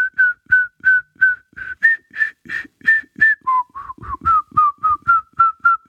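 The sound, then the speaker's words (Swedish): A person whistles a short, bouncy jingle alone, with about fifteen crisp, evenly spaced notes that rise in pitch and then step back down, clear. “Jag menar inte att du ska vissla den, utan att vi ska spela upp den musiken.”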